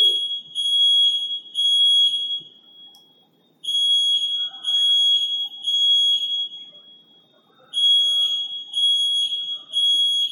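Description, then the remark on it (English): A loud, shrill electronic alarm system beeps in three rapid pulses, pauses, then repeats the three-beep pattern, with faint background noise underneath. “It's the alarm system.”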